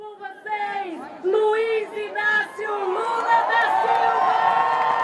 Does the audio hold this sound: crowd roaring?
yes